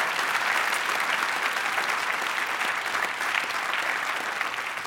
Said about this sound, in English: Would you clap your hands and thank God for Pastor Craig and Amy Groeschel and the team here at Life Church?